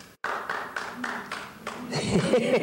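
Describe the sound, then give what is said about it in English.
An audience claps for a couple of seconds, a steady, fairly loud patter of many hands with a faintly pulsing rhythm, before a man's voice starts speaking over the fading applause. “But anyway, that was, but it's nice to clap, thank you, and not me, because I'm an ex-monk, but for all the many thousands and millions of monks throughout history who did bring peace for little periods of time”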